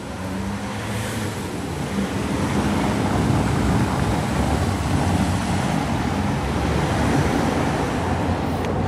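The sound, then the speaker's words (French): A delivery truck idles with hazard lights on in front of a Spar shop in Arras at 6 a.m., a steady, low, continuous rumble that holds at an even level throughout, with faint outdoor street ambience and no voices. “Il y a un camion qui attend, qui a mis ses warnings devant le magasin Spar.”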